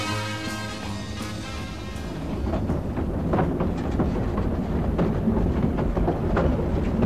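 A train rolls steadily along the rails with a deep, continuous rumble and irregular clacks of the wheels, fairly loud, as a few tonal music notes fade out at the start.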